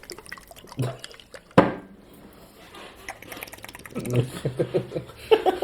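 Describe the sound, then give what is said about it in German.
A short, sharp squirt of sauce from a nozzle bottle bursts out once, followed by faint wet dripping sounds, with people talking quietly afterward. “Oh, da ist so ein Spritzaufsatz drauf.”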